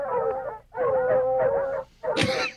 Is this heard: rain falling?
no